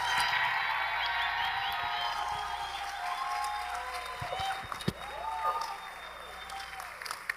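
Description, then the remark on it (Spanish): A church audience at a Sunday service claps Venezuelan-style to welcome guest pastors, a steady, dense wash of applause that runs the whole time, with scattered cheers and shouted voices rising over it now and then. “Quisiera que los recibamos con un aplauso al estilo venezolano a ellos.”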